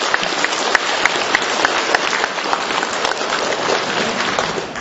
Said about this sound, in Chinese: 所以台长在这里提议，为我们今天带很多亲戚朋友来的慈悲的听众朋友们，大家给他鼓掌，谢谢他们。